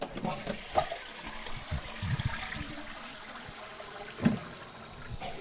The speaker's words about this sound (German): Ich gehe jetzt mal rein und höre mir die Spülung an.